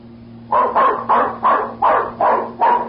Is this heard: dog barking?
yes